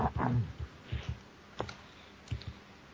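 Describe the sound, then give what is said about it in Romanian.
Irregular, forceful computer keyboard clicks from a participant in a programming class pressing the keys very hard, picked up by the computer's internal microphone: about eight sharp, fairly loud keystrokes over a few seconds with quiet gaps between them and no talking. “Până s-au de apăsat pe taste. S-au deși apăsat foarte tare la el, care microfonul intern.”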